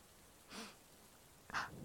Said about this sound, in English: Just love how it feels when there's a storm. The breeze, the way it smells coming off the lake.